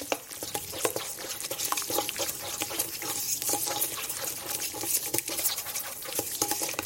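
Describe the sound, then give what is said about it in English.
A spoon stirs a thick sauce mixture in a heat-proof bowl just after hot oil has been added to it, a steady run of scraping and wet sloshing strokes with no voices present. “So let's mix this up.”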